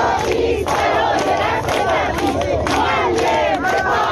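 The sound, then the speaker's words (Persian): A large crowd of striking teachers chants in unison at a protest rally in Iran, many voices rising together in loud, rhythmic shouted phrases that repeat steadily, with a dense roar of voices filling the background throughout. “و در این میان معلمان هم در شهرهای مختلف ایران با انتشار فراخوان، اعتصاب، تجمع اعتراضی برگزار کردند.”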